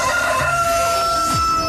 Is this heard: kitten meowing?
no